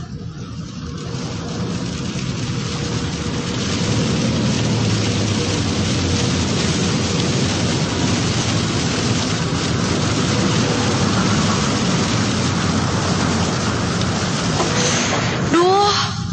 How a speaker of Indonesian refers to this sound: Deras banget nih hujan. Agak gak kelihatan nih jalan jadinya. Aku pun harus mengurangi kecepatan mobilku.